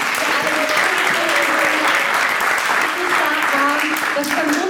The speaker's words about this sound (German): Und ja, ich möchte trotzdem um einen Applaus für alle, die angetreten sind, für alle, die eingereicht haben.